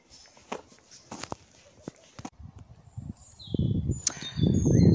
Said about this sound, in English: There's a little wren again on my right, and that's sounds about right because there's a lovely big area of scrub, so he's or she's probably in amongst that scrub area. I can't see him, but I can certainly hear him very loud for such a small bird.